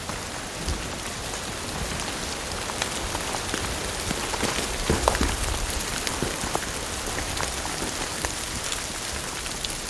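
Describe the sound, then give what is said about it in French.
Steady water drops patter and drip in winter over a broad hiss, mixed with falling clumps of snow and a stream below, scattered taps landing irregularly and fairly loudly throughout, with no voices present. “Se mêle goutte d'eau, chute de paquets de neige, et le ruisseau en contrebas.”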